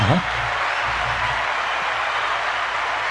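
A steady, dense round of applause fills the whole clip, a loud wash of many hands clapping at once with no breaks and no clear individual claps.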